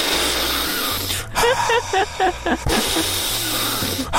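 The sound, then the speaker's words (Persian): Two long, deep breaths, each a loud, airy rush, separated by a short voiced murmur, over a low steady hum. “خب بذار من قبلش دو تا نفس عمیق بکشم.”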